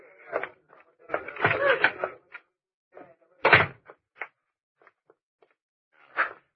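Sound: door opening and closing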